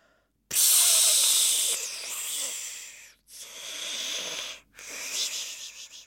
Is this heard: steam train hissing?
yes